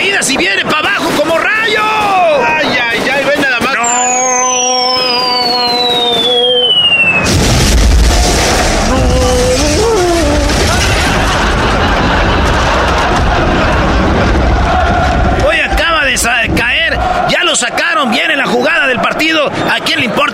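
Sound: gunfire and explosions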